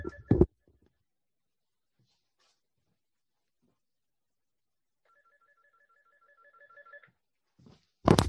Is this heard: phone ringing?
yes